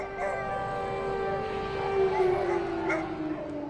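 A sustained, wailing air raid siren sounds outside during an air alert in Ukraine, with drones and missiles incoming, at a nuclear power plant, holding a steady mid-pitched tone that slowly sinks in pitch, droning without a break across the whole stretch over faint background noise.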